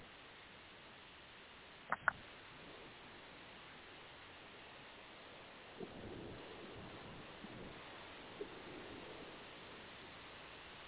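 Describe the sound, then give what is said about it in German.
A steady, hissing wash of ocean surf and spray with wind at a sandy beach, fairly soft and continuous, with a gentle swell of water midway and a couple of brief clicks near the start. “Hört die Gischt, hört das Wasser, spürt den Wind.”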